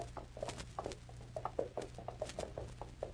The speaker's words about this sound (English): As the three horses move along slowly, Joe and Sam edge their mounts closer and closer to Ranger Bill